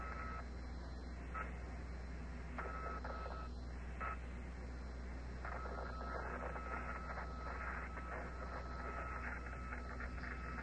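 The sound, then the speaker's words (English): Steady radio static hisses throughout, with thin whistling tones drifting in and out above it; the noise stays at an even, moderate level with no voices. It is the radio static and whistle that astronauts on the surface of the moon also hear, after the spacecraft in orbit was told to switch to an Omni antenna. “That static and whistle the astronauts on the surface of the moon can hear also.”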